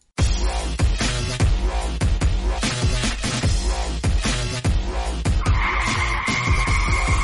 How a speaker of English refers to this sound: The car lurched to a halt.